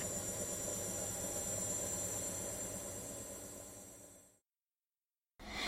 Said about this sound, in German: Die Waschmaschine schleudert und explodiert beinahe.